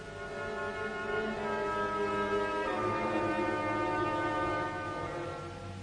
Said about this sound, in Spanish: Desde distintos cerros empezaron a sonar el atronador sonido de caracolas y bocinas, acompañadas por los gritos de los aborígenes que empezaron a correr por las colinas hacia abajo.